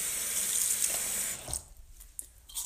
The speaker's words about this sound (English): So, of course, in the process of splashing water into my eye, I completely soaked my shirt